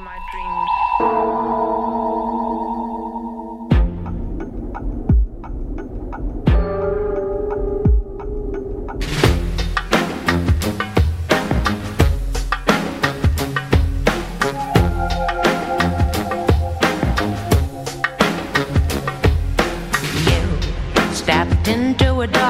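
A song intro opens on a sustained, droning tone, shifts to sparse struck notes, then a full band with steady drums kicks in loudly after about nine seconds. No singing or talking yet.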